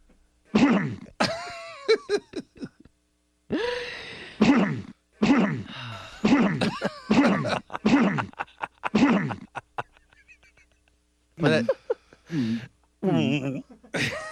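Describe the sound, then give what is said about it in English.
A series of loud coughs in irregular bursts, some harsh and some voiced and throaty, separated by short pauses, with a final cluster of coughs near the end. “And then here's just the cough.”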